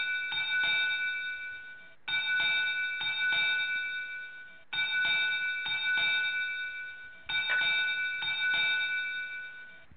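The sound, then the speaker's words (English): A Navy ship's bell rings four times at steady intervals, each bright metallic strike hanging and slowly fading before the next. It sounds slightly tinny, with no voices. “And I do believe that was a Navy bell.”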